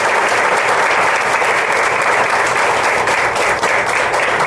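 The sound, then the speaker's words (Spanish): Steady, loud applause from an audience for a group of young people fills the whole stretch, a dense wash of many hands clapping at an even level with no voices standing out. “Un aplauso para estos muchachos.”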